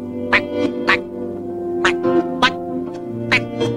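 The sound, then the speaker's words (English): A person imitates a duck, voicing six short, nasal quacks in an uneven rhythm, fairly loud, with a steady low hum underneath. “Quack, quack, quack, quack, quack, quack.”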